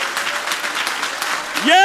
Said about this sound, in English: Can we give the Lord one more thunderous applause of praise?